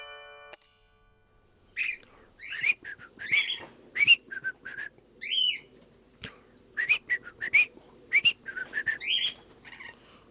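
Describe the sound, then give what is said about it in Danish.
A pet bird whistles repeatedly in bright, rising and falling phrases, fairly loud, with short pauses between bursts and no voices. “Så kan han samtidig sidde og fløjte ud i timevis.”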